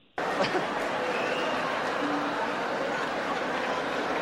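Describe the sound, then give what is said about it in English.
A steady wash of audience applause starts abruptly and holds at an even, loud level, with crowd chatter and a few laughs mixed into the dense clapping. “He's about to say it, and he's like, I got to wait for them to settle down. Wait for the applause.”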